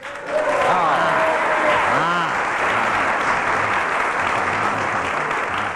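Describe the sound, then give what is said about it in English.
A crowd applauds steadily, dense clapping starting abruptly and holding at a loud, even level throughout, with scattered voices and cheers mixed into the noise. “Oh, well, I've got a clap. Got a round of applause.”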